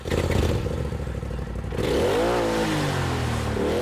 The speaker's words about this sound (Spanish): Bueno, es ese sonido. Quax, sí, es parecido, es un Polaris, es quizá el mejor coche de todoterreno de venta al público, ¿no? Y entonces lo alquilamos, estuvimos recorriendo por allí los caminos,